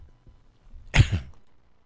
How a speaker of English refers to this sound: Really struggling with this cough. I cannot shake it.